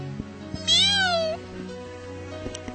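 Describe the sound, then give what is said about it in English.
A person imitates a cat, voicing a single drawn-out meow, loud, rising then sliding down in pitch, with a few soft clicks and a low steady hum in the background. “That's what the girl that goes, meow!”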